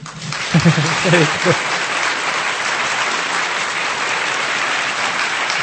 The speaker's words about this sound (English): because now, a few people clapped, and there was just no energy in the clapping. I was taught, if you're going to do something, you give it everything you've got. So if you're going to clap, go for it.